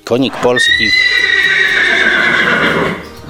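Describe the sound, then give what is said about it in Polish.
A Konik polski horse at the stable breeding farm in Roztocze National Park at Florianka, Poland, lets out one long, loud whinny, a shrill wavering neigh lasting a few seconds before trailing off, preceded by a brief voice at the start. “Jesteśmy w dawnym folwarku ordynacji zamojskiej na Floriance, który założony był najprawdopodobniej około 1830 roku, a obecnie znajduje się tu stajenna hodowla koników polskich.”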